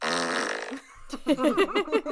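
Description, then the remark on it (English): A loud, buzzy fart noise rings out for almost a second, then cuts off and gives way to a person talking in short bursts. “And honey, he gassy.”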